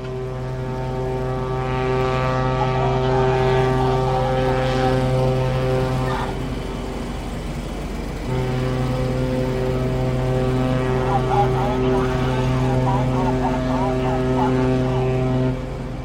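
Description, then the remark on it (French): The engine of a large CGM banana cargo ship, which sails a regular rotation between France and the Antilles, drones steadily at the dock, a loud humming rumble with strong tones. It eases off briefly midway, then resumes at full strength. “Eh bien, on se trouve devant un bateau de la CGM qui s'appelle le Fort Royal, qui est l'un des quatre bananiers qui fait la rotation régulière entre la France et les Antilles, et donc qui porte des bananes.”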